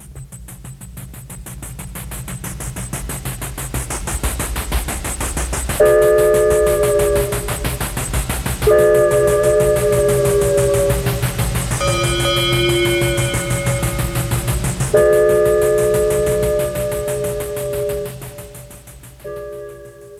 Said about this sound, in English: Atmospheric and stylistic effects are essential in creating a mood. We have the ingredients to produce those sounds. For example, a steam locomotive.